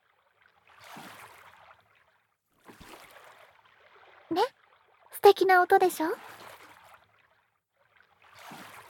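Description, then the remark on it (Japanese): Soft splashing swishes of oars dipping into water as a boat is rowed come in slow, evenly spaced strokes, gentle, with a voice speaking quietly between them. “星の運河は漕いで漕ぐと水の音が聞こえてくるんです。”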